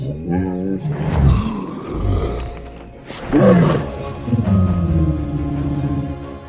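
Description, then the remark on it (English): The roar of the dragon Toothless from How to Train Your Dragon, blended from tiger, horse and elephant sounds: several loud growls and snarling bursts with shifting pitch, ending in a long, rumbling, throaty roar. No one speaks. “In How to Train Your Dragon, the sounds of tigers, horses, and elephants were all used for the dragon named Toothless.”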